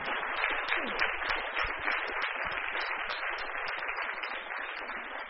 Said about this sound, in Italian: Intanto grazie e un applauso da parte di tutti noi per te.